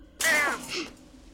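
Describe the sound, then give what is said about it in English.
A black-beaked bird in a covered bird cage gives a loud, raspy caw followed right away by a shorter, softer second caw, alone with no talking. “A black beak pokes through.”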